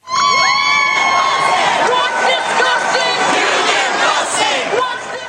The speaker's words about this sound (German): Zehntausende von Lehrern, Studenten und Gewerkschaften protestieren seit über einer Woche im Kapitol von Madison, der Hauptstadt des Bundesstaates Wisconsin.